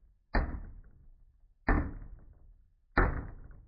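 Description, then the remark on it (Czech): Three heavy knocks from a hammer strike a heavy oak and iron gate, evenly spaced about a second and a half apart, each a sharp thud with a short resonant decay, with no talking. “Pozvedl kladivo a dal jim tři údery.”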